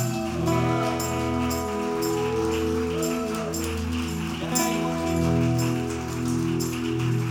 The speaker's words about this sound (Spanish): Aplauso a Jesús esta mañana.